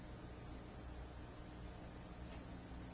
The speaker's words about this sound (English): Because the wire is so fine, raising its voltage results in ionization of the air, in a hissing, electrical breakdown. This discharge is confined to the immediate vicinity of the wire.